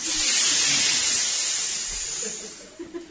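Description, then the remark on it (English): A crowd of people, asked to hiss very loudly, hissing together in imitation of snakes, a sustained broad airy hiss that slowly fades over about three seconds, with a couple of brief bumps near the end. “It was very, this stereo of hissing snakes were heard from those silos.”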